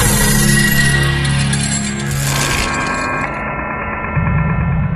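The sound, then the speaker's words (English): A dense, sustained ambient drone with layered steady tones and a low hum, its texture shifting midway as the upper hiss fades, with no speech throughout. The drone comes from the Climax Imaging radio station production package. “Drones.”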